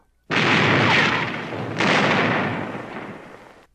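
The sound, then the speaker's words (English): Two heavy cannon blasts from a ship's broadside, the second about a second and a half after the first, each a loud, broad roar that rumbles on and slowly fades, with no voices. “Give him another broadside! By thunder, we'll see you to Davy Jones!”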